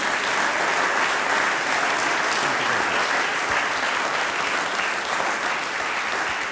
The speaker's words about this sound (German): Und natürlich die Murbratler. Das ist euer Applaus. Dankeschön.